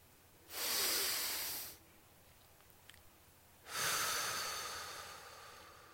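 Two slow, deep breaths taken during a medical examination, each a long airy rush of air separated by a few seconds of quiet, with no talking.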